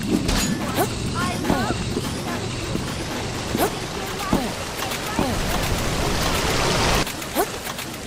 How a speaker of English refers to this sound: Was a water spell. Again, a water spell.